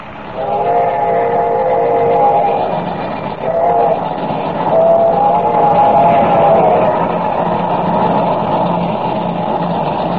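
steam locomotive train running

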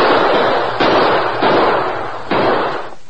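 gunshots

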